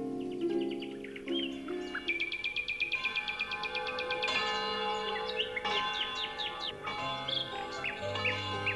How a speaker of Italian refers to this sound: Quando Heidi si svegliò nella baita del nonno, nella valle suonavano le campane e gli uccellini cantavano felici.